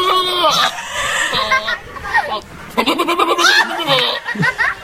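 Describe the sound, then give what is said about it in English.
A goat in a cage bleats several times as a woman tries to feed it, loud wavering cries in quick succession, with the woman's laughter mixed in between the calls. “That's the goat.”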